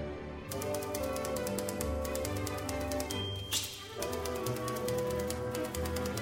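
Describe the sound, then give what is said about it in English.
Typewriters clack in a steady rhythmic beat as part of a musical piece played by a typewriter orchestra, loud over sustained instrumental tones, with a brief swooping sound midway. “all this keyboard talk made us remember … and his typewriter orchestra”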